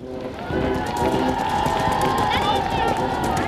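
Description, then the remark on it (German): A large crowd of spectators in Zürich cheers and shouts in a loud, continuous roar that swells after a brief moment, with a busy rumbling underneath as guild rider groups, a dozen or more horses each, gallop in a tight circle around a burning woodpile topped with a snowman effigy, close to the fire and people. “Unter dem Jubel der Zuschauer galoppieren die Reitergruppen der Zünfte um den brennenden Holzstoß mit dem Böck.”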